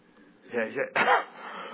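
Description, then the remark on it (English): A fairly loud cough from a person with a cold, in two quick bursts: a short rough throat-clearing sound followed by a sharper, harsher cough, then quiet room tone. “I really do have a cold, so that cough is not...”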